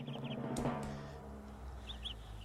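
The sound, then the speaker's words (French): Small birds chirp in brief, bright pairs of tweets, once near the start and again toward the end, over a steady low droning background. “Pourquoi les petits oiseaux ?”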